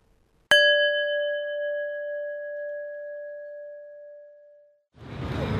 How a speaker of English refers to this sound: Now press pause when you hear the bell.